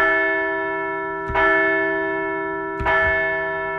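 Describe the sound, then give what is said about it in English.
A large bell rings out twice, about one and a half seconds apart, each loud strike leaving a rich, sustained metallic hum that lingers between the hits. No voices are present. “So let's ring the bell for a strong road trip as the Phillies face off next in a battle for Pennsylvania.”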